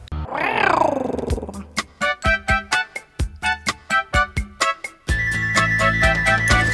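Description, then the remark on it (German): In a dark forest, a wild animal's roar swells and fades, followed by a quick, steady series of sharp grunting bursts, then a sustained, buzzing tone. No one speaks. “Und im Wald ist es dunkel und von überall her hörst du Geräusche von wilden Tieren, die dich auffressen können.”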